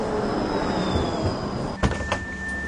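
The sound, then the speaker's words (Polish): A low-floor tram in Łódź rumbles in with a steady electric motor whine, then its doors open with a quick hiss and clunks and a high warning tone sounds. “I podjeżdża jeden niskopodłogowy tramwaj, zobaczymy, co łodziani, którzy nim jadą, sądzą o tym, czy miejsc jest za dużo, czy za mało.”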